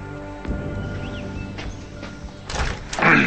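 A front door is opened from a foyer, with a few soft knocks and thuds of the latch and frame, ending in a louder rattling scrape as it swings wide. No one speaks.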